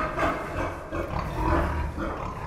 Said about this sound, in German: Die 1000 Schweine des Bauern Michael Reber liefern nicht nur prima Schinken, sondern sie heizen vor allem das Quartier Teurers Hof auf angenehme Wohntemperatur.